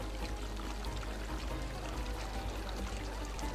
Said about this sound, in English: That is thanks to the Arhelene. It is a magical stone, unearthed centuries ago by the original Lacetain nomads. It creates a steady stream of water, constantly.